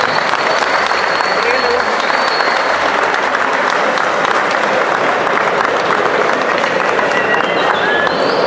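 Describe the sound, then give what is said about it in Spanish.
Sustained applause from an audience honoring a rooster breeder (gallero) from Sinaloa, a dense, steady wash of clapping that stays loud throughout, with occasional voices and faint whistles mixed into the crowd noise. “Pues felicidades y un gran aplauso para un gran gallero de Sinaloa.”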